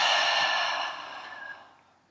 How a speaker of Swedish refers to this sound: Vi kan börja med att bara ta de här vanliga andetagen som vi har gjort. Vi andas in genom näsan. Och håller. Och släpper ut genom munnen.